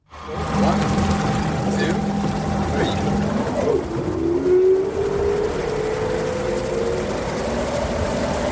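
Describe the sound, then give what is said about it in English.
A Candela P12 prototype electric hydrofoil ferry, lifted out of the water by narrow hydrofoil wings, moves over water. A steady electric whine and hum ride over continuous rushing water noise, loud, with the motor's pitch dropping and then slowly climbing about halfway through. “This is the Candela P12, the prototype of a ferry which should go into service in July 2024.”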